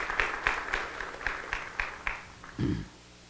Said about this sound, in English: Let's give them a round of applause, shall we? Amen.